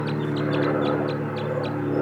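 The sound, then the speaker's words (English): Wild birds give a quick series of short, high chirping calls, about eight in two seconds, over a steady low mechanical hum. No one speaks. “They're calling now.”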